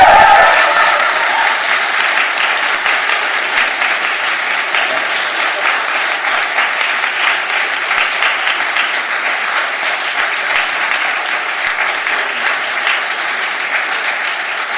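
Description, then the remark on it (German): Sustained applause from an audience thanking the speaker's mother, who catered the project, steady and fairly loud for the whole stretch, a dense patter of many hands clapping with no one speaking over it. “Am Applaus hat man es gehört, ihr wisst schon, was ich sagen will.”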